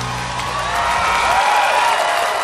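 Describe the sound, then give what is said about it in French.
An audience applauds and cheers, a dense, steady wash of clapping with scattered whoops that holds at a fairly constant loudness throughout, with no talking over it. “Sous les applaudissements.”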